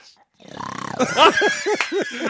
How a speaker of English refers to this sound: Maybe the tiger once more.